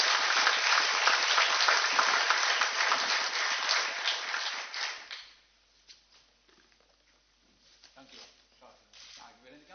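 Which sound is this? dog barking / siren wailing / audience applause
audience applause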